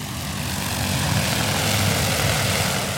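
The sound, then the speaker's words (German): A steady, loud propeller whine and rumble from a large agricultural spraying drone, hung with a big canister and spray nozzles, lifting off and stirring up dust on a farm in Brazil, a dense buzzing roar that holds and swells slightly, with no voices. “Staub wirbelt auf, dann hebt die Drohne ab.”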